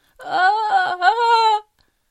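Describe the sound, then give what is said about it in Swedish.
A single unhappy, wailing scream in the dark, tonal and sustained for about a second and a half, its pitch wavering and briefly breaking twice before cutting off into silence. “Ett olyckligt skrik ljöd i mörkret och en brinnande sticka for ut från buren bredvid och singlade ner i bergets inre.”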